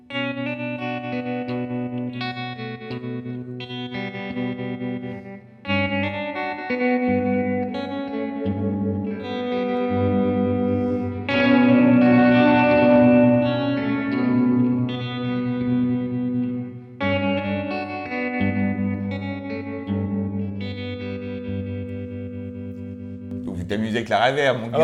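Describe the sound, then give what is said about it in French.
Electric guitar chords played through a reverb effect pedal with its blend control adjusted, each one ringing out in a long, washy tail. The playing is fairly loud, with short breaks between phrases and a brief scrape at the end. “Je me suis amusé avec la reverb et seulement avec le blend, ça veut dire la balance entre ton son traité et ton son non traité.”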